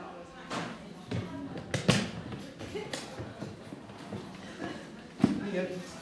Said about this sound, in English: It's all going on. There's people walking around all over the place in the back.